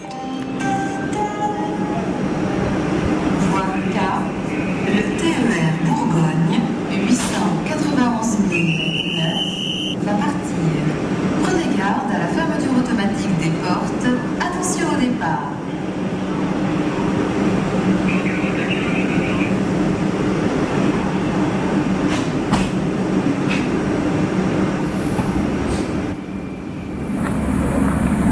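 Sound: train travelling on rails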